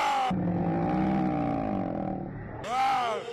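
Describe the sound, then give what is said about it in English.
A person, asked to roar, lets out a long, deep, guttural roar lasting a couple of seconds, loud, followed by a brief higher-pitched vocal sound at the end. “Can you roar for me?”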